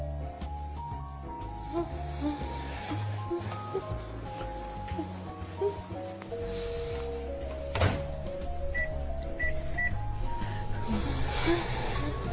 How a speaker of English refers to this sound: It's time for lunch. I'm heating my lunch in the microwave. Did you know the microwave was invented at the end of World War II?